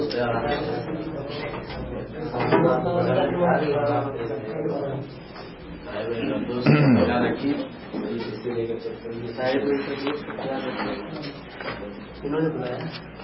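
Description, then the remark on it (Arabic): A chair is shifted and set down with a brief wooden knock and scrape, under continuous talking from a man. “أجاب لك كرسي تفضل.”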